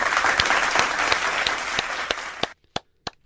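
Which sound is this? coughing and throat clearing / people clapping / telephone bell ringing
people clapping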